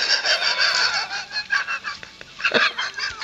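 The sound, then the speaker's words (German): Agathe, a breeding hen kept by a poultry breeder, clucks steadily, a busy run of nasal, overlapping calls with a few sharper squawks near the end, no voices. “Nein, Agathe ist ein Zuchthuhn.”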